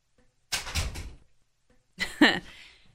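household object, door being opened

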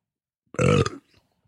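human body sound, burp

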